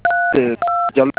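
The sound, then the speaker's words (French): Three steady two-tone telephone keypad beeps of the same pitch, loud, pressed during a phone call about a mobile money transfer, with bursts of a voice talking in between them. “Évitez de toucher les boutons de votre téléphone.”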